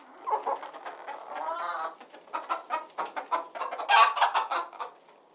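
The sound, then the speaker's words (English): About a dozen chickens picking at the dirt in a big backyard with a half acre of vegetables and flowers, on a warm day, cluck and chatter in a steady, busy stream of short calls, with one drawn-out squawk early on and a louder burst near the end. “a half acre of vegetables and flowers, with a dozen chickens picking at the dirt, and a greenhouse that looked big enough to park a semi in.”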